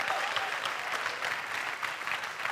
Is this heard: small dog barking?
no